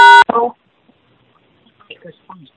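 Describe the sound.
A single loud telephone keypad tone sounds at the very start, short and sharp, followed by brief snatches of faint, broken-up talking.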